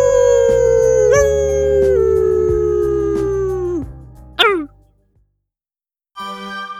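A dog lets out a long, loud howl that slowly sinks in pitch, breaks off with a sharp upward yelp, then after a brief silence starts howling again.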